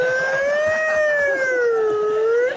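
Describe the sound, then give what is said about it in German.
An air raid siren wails steadily, its loud tone slowly rising and falling in pitch without a break, with bright overtones over a faint low rumble. “Ich glaube, es ist Fliegeralarm.”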